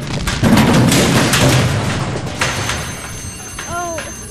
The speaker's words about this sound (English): Now that was quite a remarkable blast.